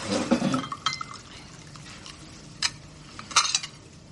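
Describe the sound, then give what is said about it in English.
Liquid glugs and splashes as a drink is poured from a bottle, followed by a few light clinks of glass and short trickling bursts, with no talking. “Oh, here's a bottle of something.”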